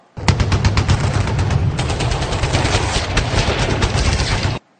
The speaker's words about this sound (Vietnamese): Vừa lúc ấy có mấy phát súng nổ gần, gã kia có vẻ quýnh, gã nghinh cổ, nghe ngóng